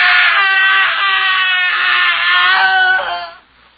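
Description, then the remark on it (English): A single agonized human scream from a house in the early morning, loud, held for about three seconds with a wavering, strained pitch before it breaks off abruptly into near silence. “The screaming had ceased a moment before we gained entry.”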